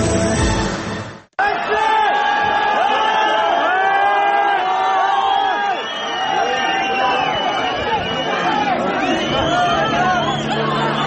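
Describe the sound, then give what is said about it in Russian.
An angry crowd of townspeople shouts and yells continuously, many overlapping voices raised together in a loud, chaotic din, after a brief cut near the start, as they try to seize a murder suspect from the police. “толпа разгневанных горожан попыталась отбить его у полиции и устроить над ним самосуд”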